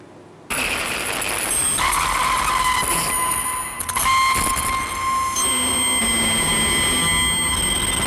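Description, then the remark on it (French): A car drives steadily along the road in light rain, windshield wipers sweeping the windshield, its engine a continuous broad roar with a few high tonal whines and tire noise, loud and unbroken after a brief quiet start. “Ils reprennent la route.”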